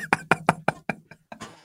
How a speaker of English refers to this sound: I can hear your cutlery and crockery like banging in the background.